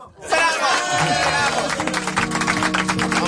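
A crowd bursts into loud, sustained applause for the museums of Madrid, dense clapping mixed with cheering voices that keeps going steadily for a few seconds.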